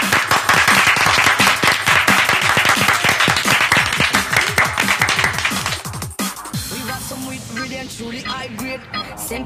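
A loud burst of crowd applause, dense overlapping claps for about six seconds with some voices mixed in, then it abruptly gives way to a quieter, more tonal sound.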